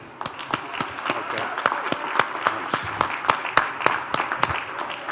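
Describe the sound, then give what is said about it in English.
A round of applause from a group for someone who qualified for the Indy: many hands clapping in a dense, steady patter with a few sharper claps standing out, lasting several seconds at a moderate, even level. “and I think we should all give him a big round of applause and tell him good luck in the Indy.”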